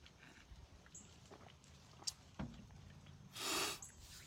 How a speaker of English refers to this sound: I'm crying because of the cough. So pray for me right now that this cough will go away.